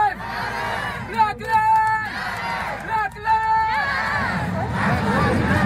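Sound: protest crowd chanting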